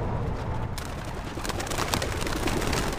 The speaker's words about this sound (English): The pigeons burst through the open door in a blur of wings. They circle for a minute and then move together as a flock.